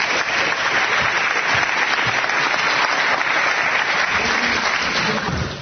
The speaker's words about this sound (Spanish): Venga, un aplauso también para ella.